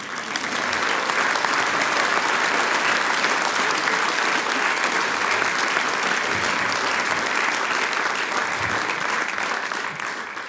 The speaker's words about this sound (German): Und die Gastgebergruppe, die Gruppe, die die Mitglieder nach der Haarfarbe auswählt. Applaus für Weststeirisch zusammengewürfelt.